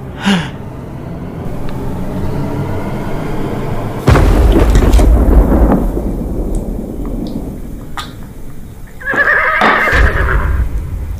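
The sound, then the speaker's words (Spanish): A horse whinnies loudly near the end, a shrill wavering neigh rising over steady rain, after a heavy rumble of thunder crashes in partway through the storm. “¿Un caballo?”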